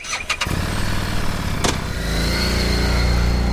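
A stock Harley Street 750 motorcycle engine starts up with a few clicks, then settles into a steady, low, even exhaust rumble that swells slightly louder partway through, with no one talking.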